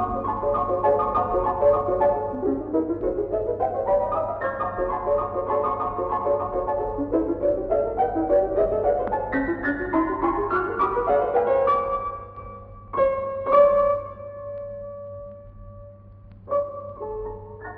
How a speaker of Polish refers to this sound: posłuchajmy teraz fragmentu oryginalnej wersji, tym razem na fortepian.